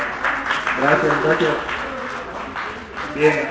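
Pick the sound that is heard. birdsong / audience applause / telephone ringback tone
audience applause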